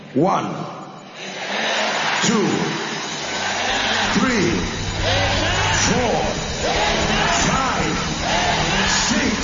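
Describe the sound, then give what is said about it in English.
An audience at a conference shouts amen seven times in loud, rhythmic bursts, each voiced cry rising over a dense, roaring crowd noise. “You're going to shout amen 7 times.”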